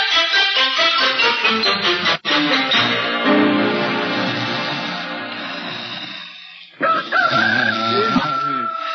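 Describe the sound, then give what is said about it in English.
A rooster crows loudly in a long, drawn-out cock-a-doodle-doo, followed by a brief pause and a second shorter crow. “A rooster? You know, a he chicken.”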